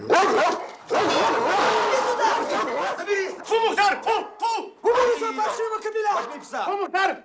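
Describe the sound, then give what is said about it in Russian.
A police dog, Mukhtar, barks loudly in rapid, agitated bursts inside a dark building as it is let loose on its leash, with snarling, yelping tones between barks, continuing almost without pause throughout. “Пускаю собаку!”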